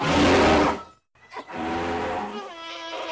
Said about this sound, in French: Et ça barrit. Ça écrase tout sur son passage.